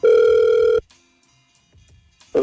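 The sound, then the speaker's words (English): A telephone ringback tone on an outgoing call to a man: a loud steady electronic ring burst, a pause of quiet line hiss, then the next ring starting. No one speaks. “We're going to try and call him now, okay?”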